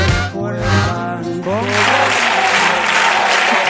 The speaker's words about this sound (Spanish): Y le estaban aplaudiendo porque no había sido elegido.